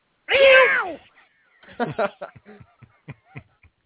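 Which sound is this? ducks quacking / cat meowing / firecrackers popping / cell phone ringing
cat meowing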